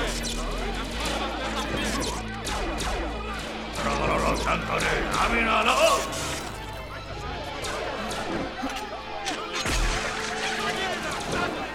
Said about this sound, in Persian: شلیک کنید.